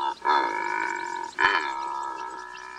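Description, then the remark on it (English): A secretary bird gives two long, hoarse, groaning croaks in quick succession, each rough and droning with a low, buzzy tone, heard alone without any talking. “Did you hear that secretary bird?”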